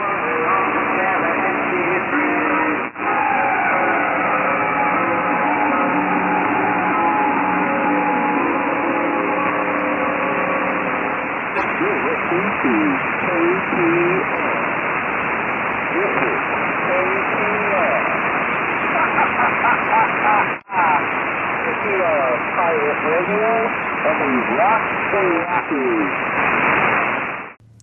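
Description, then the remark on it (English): A shortwave pirate radio station, KPR, comes in through steady hiss and static, thin and muffled, with music-like tones fading into garbled voice audio, two brief dropouts, then an abrupt cutoff. “that may explain why he's hearing KPR when other folks who usually gets much better reception from other pirates aren't hearing it.”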